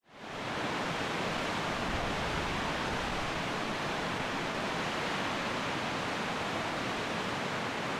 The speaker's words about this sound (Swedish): Stora vattenfallet som är så otroligt pampigt och man bara står där och så här.